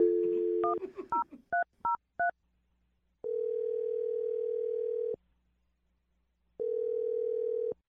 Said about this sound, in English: Well, we're going to try it out right now. We're about to dial his phone number.